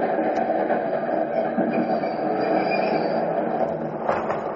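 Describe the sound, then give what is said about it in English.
A subway train pulling into 63rd Street station rumbles steadily along the rails with a broad, constant roar and faint metallic squeals overhead, heard from inside a moving car. “Finally, the conductor called the station. 63rd Street, 63rd.”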